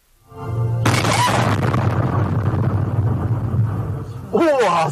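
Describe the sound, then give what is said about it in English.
A sudden, powerful explosion from a suspected gas leak at a fried chicken shop just outside Beijing, China, early on a Wednesday morning, recorded on a dash cam, erupts after a brief low hum, then gives way to a sustained, heavy roaring rumble; a voice cries out briefly near the end. “In China, a suspected gas leak has killed two people and injured 26.”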